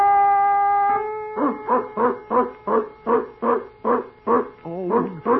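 A steady tone gives way to a dog barking about nine times in a quick, even rhythm, each bark short, clear and fairly loud, with no talking.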